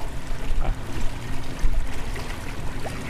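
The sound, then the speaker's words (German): A boat moves steadily through water toward a group of seals: a continuous low engine rumble mixed with splashing and churning water, loud, with no voices. “Aber sie kennen diesen Boot.”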